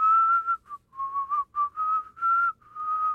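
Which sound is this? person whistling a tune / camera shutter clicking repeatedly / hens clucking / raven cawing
person whistling a tune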